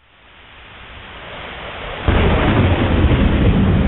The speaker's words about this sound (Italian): Un profondo rombo di tuono rotolò giù dai cieli e si perse in cupi boati in lontananza.